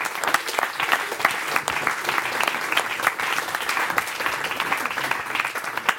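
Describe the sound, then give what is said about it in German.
An audience at an event on a hot day breaks into steady applause for themselves and a guest, many hands clapping in a dense, continuous patter with scattered sharper claps standing out, sustained at an even loudness throughout. “Vorher gibt es aber erstmal noch einen riesigen, dicken Applaus für Sie selbst, dass Sie es heute hier bei der Hitze hergeschafft haben”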